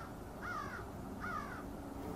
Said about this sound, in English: The most interesting thing, of course, is the birds at this time of the day. You can hear them in all directions.